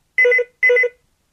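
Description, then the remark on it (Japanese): Notification sound 1 of a game played without using the eyes: two identical electronic chime bursts in quick succession, each a bright, warbling tone lasting about a third of a second, clear with no voices. “通知音1、”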